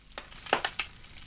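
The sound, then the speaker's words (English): Hot oil spits and crackles in a frying pan of kidneys on a kitchen stove, a few sharp pops over about a second against a low background sizzle, fairly quiet. “He enters the kitchen, looks over his shoulder, and peers into a pan on the stove in which kidneys are frying. The oil spits.”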